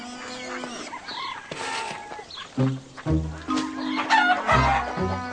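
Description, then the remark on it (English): A flock of hungry chickens being fed clucks and squawks excitedly and chases a boy, with a rooster crowing among them, the calls overlapping in a busy chorus. “didn't like the chickens chasing him.”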